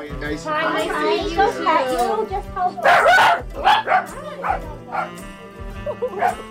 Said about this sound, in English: When we pull up to John's Roast Pork in an industrial area right by the river, we make a beeline to the small trailer office behind the very small restaurant, and here we are greeted by two barking dachshunds